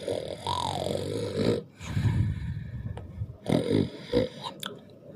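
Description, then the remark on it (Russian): Loud, close-up snoring: several rough, rasping snorts in a slow irregular rhythm, with a brief pause between breaths, and no talking. “Он заливисто храпел прямо в микрофон.”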